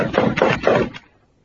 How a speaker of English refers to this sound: I reckon it won't hurt nothing to tap on the door, sort of, you know, will it?